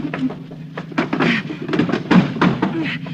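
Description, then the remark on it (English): A heavy table is shoved across the floor and against a door, with rough scraping broken by several irregular wooden thumps and knocks over a few seconds. “Let's push this table against the door.”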